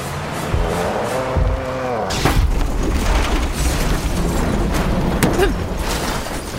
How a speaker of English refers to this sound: My world flipped right then. Literally. The impact came towards the rear and knocked the truck completely off the ground and onto its side.